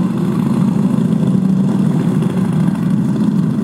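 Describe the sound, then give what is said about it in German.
Motorcycle engines rumble together in a loud, steady drone, a dense low throb that holds without pause, as bikers along Ludwig-Erhard-Straße mount and start their machines for a motorcycle church service, the first setting off in a convoy. Nobody speaks. “Entlang der Ludwig-Erhard-Straße sitzen Bikerinnen und Biker auf und lassen ihre Maschinen an.”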